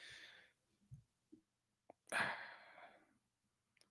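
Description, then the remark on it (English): A single loud, harsh cough bursts out partway through, trailing off over a second. It follows a softer breathy rush and a few faint clicks, with no talking. “Worst time for a cough right there.”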